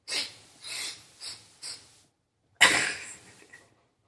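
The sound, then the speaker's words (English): Four quick, sharp nasal sniffs in a row, then a pause and one long, forceful snort through the nose as a person snorts a line of powder, with no talking. “Chuck snorts another line and giggles.”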